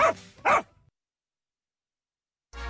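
A dog barks twice in quick succession, loud, followed by a stretch of silence before a different low, steady sound starts at the very end.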